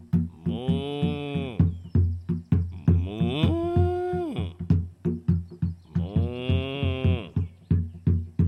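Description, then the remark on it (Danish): Children imitate a cow, letting out three drawn-out, wavering moos one after another, loud, with rustling movement and small noises between the calls. “Sig som en ko også.”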